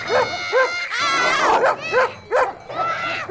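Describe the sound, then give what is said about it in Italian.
Sheepdogs bark at people standing in the middle of their flock, in quick, repeated bursts, several sharp yapping barks overlapping with a higher whining cry, loud and busy throughout. “Ora siete in mezzo al gregge. È chiaro che i cani abbaiano.”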